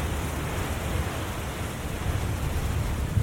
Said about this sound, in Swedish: Ett öronbedövande dån fyller luften. Innan Emily hinner reagera rullar en våldsam vägg av vatten in över stranden.